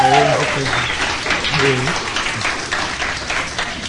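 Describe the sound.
An audience breaks into steady applause for the man controlling the position, dense clapping filling the space at a fairly loud level, with a voice briefly speaking over it near the start.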